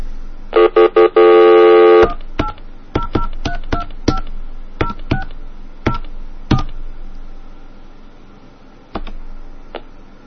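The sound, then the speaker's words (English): A touch-tone phone dials into a 575-minute MCI rechargeable prepaid phone card to check the minutes left: a short burst of tones, then a quick, uneven run of about a dozen crisp keypad beeps, clear, with no one talking. “Let's just let's fake a call here and see how many minutes are left.”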